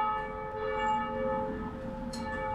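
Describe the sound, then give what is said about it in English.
A church bell striking the hour rings out, its deep, sustained tone humming with layered overtones that hang and slowly fade, with no one speaking over it. “Ooh, it might be 7 o'clock.”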